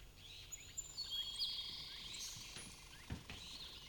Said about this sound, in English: Since the rain stopped, I've seen birds in every tree around the house. Blue jays and robins and sparrows. They've been chirping and tweeting like this, trying to say something.